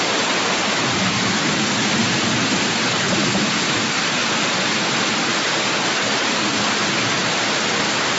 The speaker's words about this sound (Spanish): le quiero contar que aquí la situación es de lluvias intensas en las últimas horas. Escuche usted un poco de cómo amaneció hoy la ciudad de Pereira.